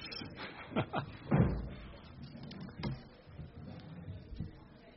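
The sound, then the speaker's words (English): Doors being shut at a council scrutiny committee meeting: a series of solid thuds and slams, the heaviest early on, followed by a couple more spaced-out bangs, with faint murmur in the background. “would you mind shutting the doors?”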